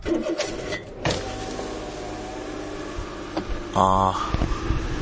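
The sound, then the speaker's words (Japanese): An electric car window whirs as it is lowered, a steady motor hum with a brief louder burst near the end, heard inside a vehicle with faint engine rumble. “ちょっと今窓開けますね、車の中で。”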